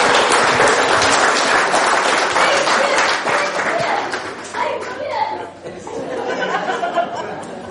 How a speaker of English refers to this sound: So can we have a big round of applause for our three artists? That would be good. Thank you.